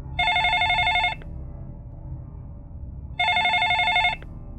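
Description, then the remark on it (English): A telephone in a house rings twice during a storm, each bright, buzzing ring lasting about a second with a long pause between, clear over a steady low rumble in the background. “With trembling hands, Sarah answered the phone.”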